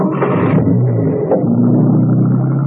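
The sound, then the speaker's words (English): A car engine is started again on a road, catching and revving up with a brief burst, then settling into a steady low rumble, with no voices present. “Steve muttered an oath under his breath that condemned all window cleaners to perdition, and started the car again”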